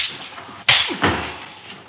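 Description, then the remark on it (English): Two sharp, loud face slaps land in quick succession, about a third of a second apart, in a film scene: an actor is slapped by a racist white textile tycoon and slaps him right back, over a steady background hiss with no talking. “slapped by a racist white textile tycoon who is getting away with murder, and Poitier slaps him right back”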